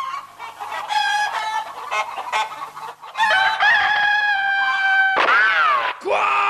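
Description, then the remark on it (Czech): A bird squawks loudly and harshly in a rapid series of calls, then lets out a longer strained cry before ending on sharp, rising squawks. “Quiet! Stupid bird!”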